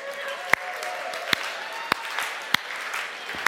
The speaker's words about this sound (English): Do you need some encouragement? Everybody, slow clap.